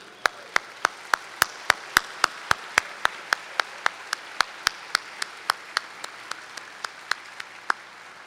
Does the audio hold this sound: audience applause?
yes